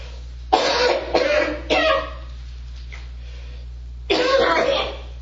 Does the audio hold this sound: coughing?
yes